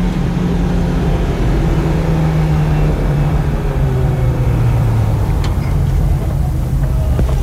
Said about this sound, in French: Les voilà, les deux bus. Voilà les deux bus, donc